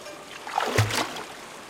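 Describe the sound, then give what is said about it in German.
A soft slosh of calm water against a ferry boat's hull as it reaches a landing stage on the far shore, one gentle lapping swell rising and fading over a second, quiet, with no voices. “Das Wasser wird ruhiger. Nach einer Weile erreichen wir endlich eine Anlegestelle.”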